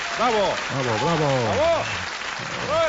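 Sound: applause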